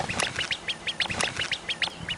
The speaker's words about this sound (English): This clip shows a fluffy baby duck chirping and frantically chasing after the person filming this adorable video, obviously mistaking the director for its mom.